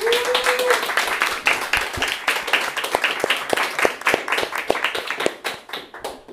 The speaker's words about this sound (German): Vielleicht einmal nochmal einen Applaus.